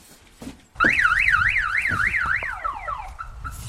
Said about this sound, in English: What, in case someone steals it? When was the last time you heard an alarm up here?